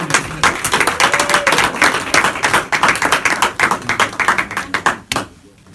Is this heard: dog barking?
no